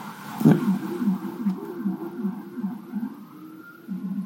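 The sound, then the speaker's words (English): An emergency vehicle siren blips as it goes down a street, in a quick, repeating series of short rising-and-falling chirps, fairly loud over a low rumble, after a brief thump at the start. No one speaks. “It's the blip, blip, blip, blip, blip, blip.”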